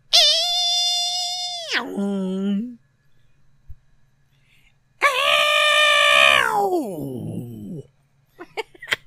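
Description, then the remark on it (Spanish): A person imitates Godzilla's roar twice: a long, high, harmonic screech that drops into a low growl, then a pause and a second shrieking roar sliding down, followed by brief clicks. “Haz tu mejor imitación del grito de Godzilla.”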